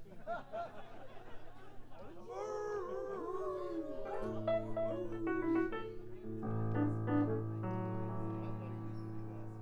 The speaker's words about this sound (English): be nice to hear the dog sing one.